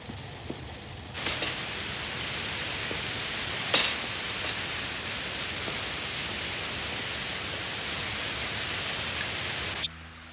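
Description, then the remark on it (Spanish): Steady rain pours down on a street in a dense, even hiss, with a few louder drops or splashes standing out briefly before the downpour cuts off abruptly near the end. “Aparta las aterciopeladas cortinas del casino, baja la escalera y sale a la calle en plena lluvia dejando la puerta abierta.”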